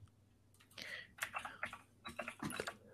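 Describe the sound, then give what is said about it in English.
Rapid, uneven typing on a computer keyboard: a dense run of crisp clicks and clacks in irregular bursts, moderately loud, with a faint low hum underneath and no voices. “That keyboard, though.”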